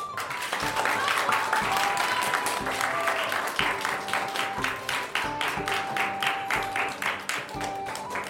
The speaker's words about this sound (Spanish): Y hemos llegado al final. Aplauso de primero A.